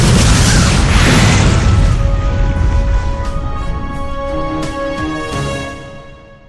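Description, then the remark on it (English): A loud blast of detonated charges erupts at once, then rolls into a long rumbling roar that slowly fades over several seconds, with ringing tones lingering in the tail. “You mean you're gonna set those charges?”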